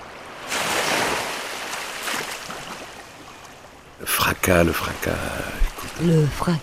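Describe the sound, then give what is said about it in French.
Ocean waves crash on a shore in a broad, roaring wash that swells and slowly recedes over several seconds, then a voice begins speaking over fainter surf. “Le fracas des vagues.”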